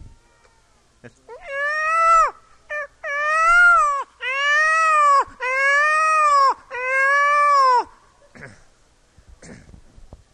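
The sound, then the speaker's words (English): A voice imitates a peacock's call: five loud, drawn-out wailing cries in close succession, each one rising then sliding down, with no talking around them. “You're a peacock and a peafowl you see on TV.”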